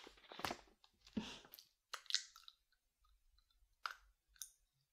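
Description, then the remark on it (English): Crisp crunching of a quick snack being bitten and chewed in a classroom, in irregular bursts separated by short pauses, with small clicks and crackles between bites and no talking. “I know I'm not supposed to eat in your classroom, but it's just a quick snack.”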